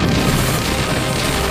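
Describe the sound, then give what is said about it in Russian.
A loud, sustained booming roar, like a blast of cannon fire, fills the whole moment with dense, rumbling low-end energy and no pauses or voices. “Будто пушечный огонь.”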